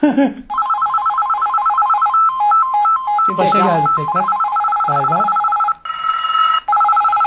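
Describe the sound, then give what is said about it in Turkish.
A loud electronic imitation of an old telephone bell rings in rapid trilling bursts almost continuously, with a person speaking briefly over it near the start and middle. “Eski bir telefon çalması o.”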